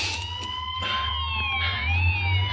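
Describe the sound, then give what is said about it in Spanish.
A police car siren wails loudly as police pass by in the streets of a housing estate, its tones sweeping steadily up and down over a deep engine rumble, with no one speaking. “Los policías pasan de largo.”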